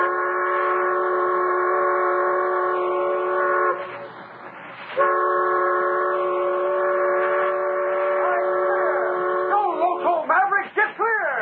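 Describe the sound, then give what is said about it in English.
A supply train's whistle blows two long, loud, steady blasts separated by a brief rumbling pause, then ends in a few short wavering hoots. “And if they didn't, they could hear us. It wouldn't be a holdup. Oh, nobody'd hold up a supply train.”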